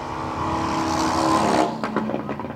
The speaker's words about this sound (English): A 1928 Chief engine in a racing frame. No brakes, no clutch.